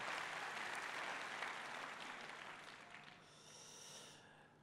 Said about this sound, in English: Yeah, give all these people a round of applause.